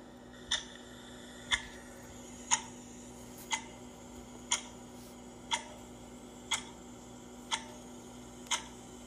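A clock ticks steadily, about once per second, each tick a crisp, distinct click over a faint, steady hum. The ticking is moderately loud, and no one speaks.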